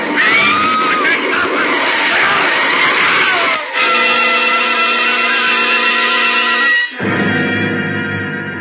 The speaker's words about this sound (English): Too late for the man in front of your speeding car to jump clear. There's a helpless skidding sensation as the car lurches across the wet pavement. And then a sickening thud.